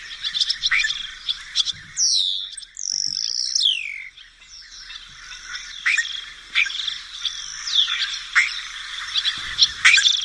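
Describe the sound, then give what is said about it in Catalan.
A busy, chattering starling song recorded outdoors in the wild, with whistles, sliding notes and rapid clicks and chirps tumbling over one another continuously, fairly loud, with no voices. “Hi ha un que és una miqueta més gran que el tort, que és l'estornell.”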